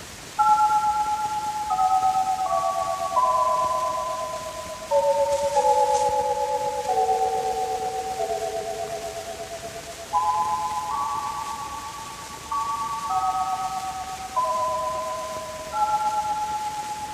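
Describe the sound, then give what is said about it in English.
The new Toyland chime plays a slow, simple melody of bright bell-like notes, each struck and ringing out before fading, stepping downward and then climbing again. No voices. “I'll let you hear the new Toyland chime.”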